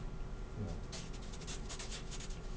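A computer mouse slides across a desk in a series of quick, scratchy strokes, fairly quiet, over a steady low background hum.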